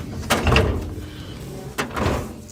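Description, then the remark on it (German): Files are put away as a hanging-file drawer rolls shut twice, each a short sliding rumble ending in a muted clunk, moderately loud with a quiet pause between. “Die Akten wandern in Schubladen mit Hängeregister neben Fällen, die keiner gleich ist wie der andere.”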